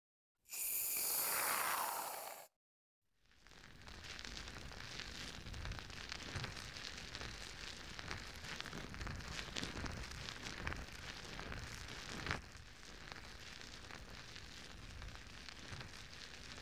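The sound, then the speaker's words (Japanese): A short hissing burst of foam being dispensed, then a steady, dense crackle of fluffy foam fizzing and popping as it is used to clean the ears during an ear massage, with many tiny bubbly snaps continuing without pause and no voices. “まずはふわふわの泡で綺麗にしていくからね。”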